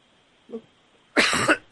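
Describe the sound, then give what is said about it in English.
A faint throat sound is followed by a loud cough burst lasting about half a second, with a second short cough right after, interrupting someone reading aloud from a book. “Coughs are not included.”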